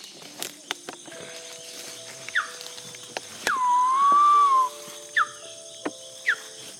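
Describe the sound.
A guide at Tiputini Biodiversity Station imitates a woolly monkey call: a long, loud whistled tone that dips then holds steady, with short rising chirps before and after, over a faint buzz of insects.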